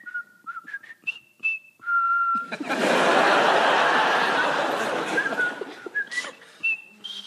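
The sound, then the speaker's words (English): A voice imitates a pub parrot in Brixton whistling the Colonel Bogey march in clear notes, breaks into a burst of loud laughter, then whistles the phrase again, leaving off its final note. “He couldn't talk, he could whistle Colonel Bogey, but he could never get the last note. So he'd go...”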